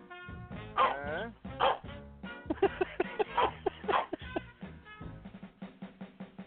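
dog barking

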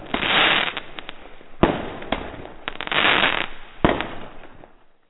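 fireworks sound effect

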